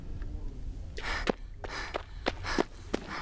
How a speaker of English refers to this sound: All I can hear is my own breathing as I rush up to the building.